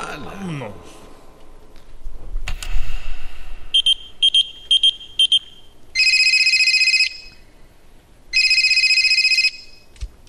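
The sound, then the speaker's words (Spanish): A telephone rings electronically: a quick series of short high chirps, then two long, steady trilling rings separated by a pause. Brief voices and noise come before the ringing. “Oye, llaman como tres veces que te marco al Viper y no contestas.”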